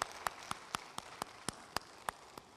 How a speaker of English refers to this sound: Thank you, graduates, for being here and family members for being here. Let's give them one more round of applause, if you would. They have worked hard.